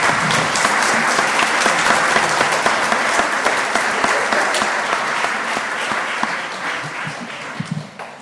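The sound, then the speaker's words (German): An audience applauds steadily for about eight seconds, a dense wash of many hands clapping at even loudness that thins slightly toward the end, with a few isolated claps standing out. “Wir haben vorher schon bei einigen Dingen auch geklatscht.”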